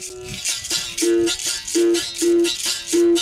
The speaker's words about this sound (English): Do you know the berimbau? Is that the one that sounds like a little dog yelping? No, that's the cuíca. This is the berimbau.